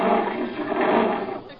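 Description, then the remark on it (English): A lion in a cage lets out one long, loud, rumbling roar that lasts the whole moment, holding steady before easing off slightly at the end. “Jerry, surely you're not going into that lion's cage.”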